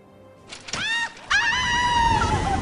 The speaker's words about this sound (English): Treats her like a lady, until she's thrown off the cliff, screaming.